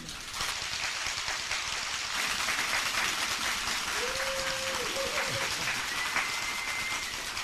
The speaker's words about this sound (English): I knew the money people get the big applause.